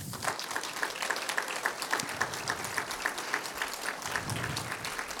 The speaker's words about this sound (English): And that's why we want to celebrate him coming. So if we can have a round of applause.